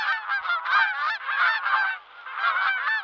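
bird, geese honking and cackling

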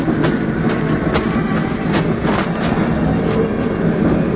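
vehicle, train

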